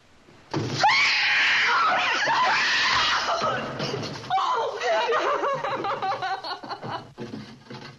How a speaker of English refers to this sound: And she blows the lantern out, and the daughter understands what that means. And she lets out this scream that's one of the most unearthly screams I've ever heard in a classic Hollywood film.